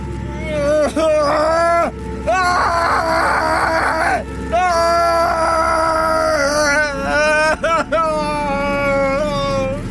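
A man wails and moans in pain, his loud, drawn-out cries rising and falling in pitch with brief breaks between them, continuing throughout.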